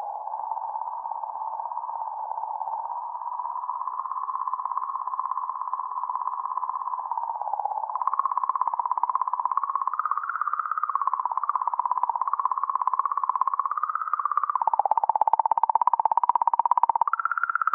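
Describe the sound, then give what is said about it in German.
A comet sound: a steady, eerie electronic tone that hums and wavers in pitch for almost twenty seconds, growing a little louder and more warbling partway through, with no voices. “In der Pause, die jetzt kommt, hören Sie einen Kometensound.”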